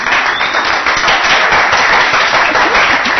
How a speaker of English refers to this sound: Well, it's a good thing you clapped at the beginning, because I'll take that and leave now.